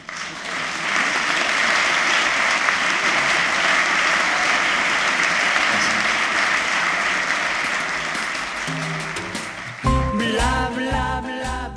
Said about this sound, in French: Vous aurez remarqué avec ces applaudissements à quel point le public était dans la tension de cette soirée, dans l'attention à cette soirée, dans la présence, et c'était assez étonnant